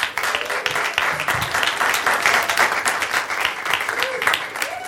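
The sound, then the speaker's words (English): An audience applauds steadily for about five seconds for comedian Michelle Buteau's All in the Family entry, a dense, even wash of many hands clapping at a fairly loud level, with a few faint voices and whoops mixed in. “So, with your applause, starting with Michelle Buteau, All in the Family.”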